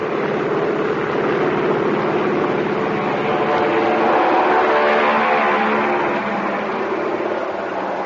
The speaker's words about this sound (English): Now he's standing in front of the plane, whirling his right arm. The pilot revs up his motors. Fly One points down the deck, and the plane is off. Listen.